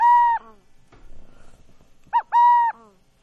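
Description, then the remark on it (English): A burrowing owl calls: a clear, sustained hoot, a pause with faint rustling, then a quick short note leading into another long, steady hoot. “That's a burrowing owl, Tara, I think.”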